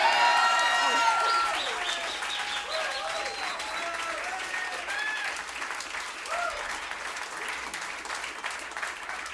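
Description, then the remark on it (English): A crowd applauds and cheers after being asked whether it wants an encore, with loud, dense clapping while high whoops and shouted cheers rise over it, strongest in the first second or so before the clapping settles and carries on. “Okay, well, and those of you who didn't clap, we'll just play you on out.”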